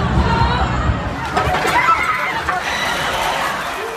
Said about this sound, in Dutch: En begint de dode rit over de drukke Promenade des Anglais. Mensen rennen voor hun leven.